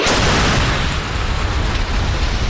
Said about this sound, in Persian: مانوری که در آن موشک‌های بالستیک و کروز شلیک شدند. کرملین اعلام کرد که نیروهای هوافضای روسیه با موفقیت موشک‌های بالستیک مافوق صوت کینجال با قابلیت حمل کلاهک هسته‌ای و پرتاب از هوا و دیگر انواع موشک‌ها را در طول رزمایش شلیک کردند.